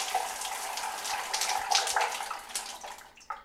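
Water streams steadily from a shower that Captain Boris is standing under, a broad hissing spray that holds for about three seconds before tapering off as the water supply stops after a broken water pipe, with no voices.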